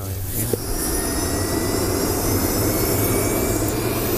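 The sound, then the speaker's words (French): A rescue helicopter's engine and rotor drone loudly and steadily as it arrives with a doctor, a continuous whine and low rumble filling the whole stretch without a break. “L'hélicoptère est ici, le docteur est ici.”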